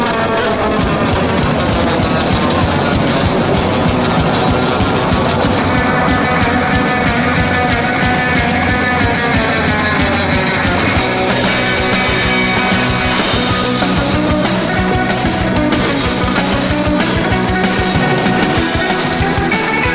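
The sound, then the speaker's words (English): A rocket engine roars steadily and loudly as the rocket lifts off past its launch tower with flame belching out around it and a water deluge system pouring, a dense rumbling blast that turns harsher and brighter about halfway through. No voices are heard. “We have one, flame and a great deal of smoke coming out of the bottom of that rocket.”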